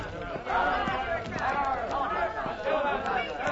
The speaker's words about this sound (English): What is that mob? Why do they taunt the woman?